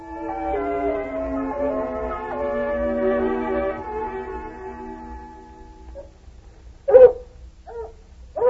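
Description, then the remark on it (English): A female hound puppy, Lady Anne, whimpers in a long, wavering, falling whine for several seconds, then lets out a few short, sharp yipping barks, with no one talking. “That pup's developing sense. Wouldn't be surprised if she turned out to be the best hound we ever had.”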